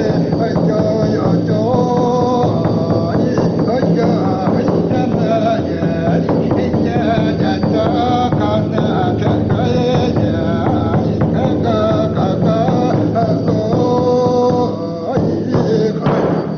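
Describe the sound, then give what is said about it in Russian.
A Yakut shaman's ritual chant, depicting his journey to the spirits on reindeer, rings out continuously, a loud, droning voice with steady sustained tones and a dense, rhythmic texture filling the whole recording without pause. “Якут-шаман изображает свою поездку к духам на оленях.”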